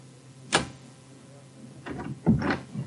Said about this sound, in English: I just unlocked the door.